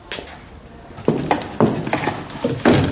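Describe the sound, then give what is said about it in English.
A chair is shifted into place with a series of hollow wooden knocks and thumps at uneven intervals, growing a little louder toward the end, with no one talking. “Grab that chair right there.”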